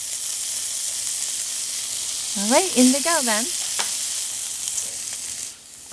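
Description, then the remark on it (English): Cicadas sizzle loudly and steadily in a little hot oil in a pocket of a pan with red peppers, a continuous crackling hiss that runs the whole clip while a voice speaks briefly over it midway. “I'm gonna create a little pocket here, add a little oil so that we could get some good sizzle sounds for the cicadas.”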